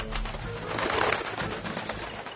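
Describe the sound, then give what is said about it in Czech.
A pigeon coos in low, soft, throaty murmurs over a steady bed of rustling background noise. No one speaks. “Već mu je pretila smrt od davljenja, kad bi dolete jedan golub i stade na obalu da se napije vode.”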